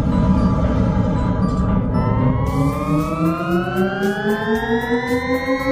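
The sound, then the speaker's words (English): A loud spaceship-style sound effect: a steady, droning hum with layered tones that slowly glide upward in pitch, sweeping higher for several seconds over a rumbling low base, with no talking. “I mean, super, super annoying spaceship sound.”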